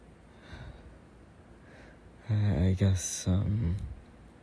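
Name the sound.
heavy breathing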